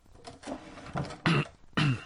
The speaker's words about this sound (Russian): Государь смущенно кашлянул, пробежал взглядом из-под лобья по лицам присутствующих